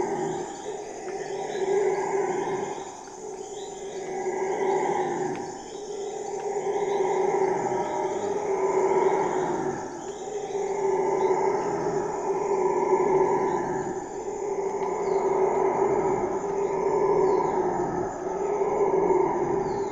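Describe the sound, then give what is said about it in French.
Howler monkeys roar continuously in deep, surging waves that rise and fall every few seconds, loud, while a steady high insect buzz hums behind them. “Même quand on le réentend, on est toujours impressionné, on est toujours là, un singe hurleur, surtout quand on est à côté, parce que c'est presque démesuré ce son.”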